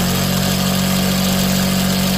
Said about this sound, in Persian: ماشین های خیاطی. کوچه کاست فروشی به کوچه خیاطان مبدل شده.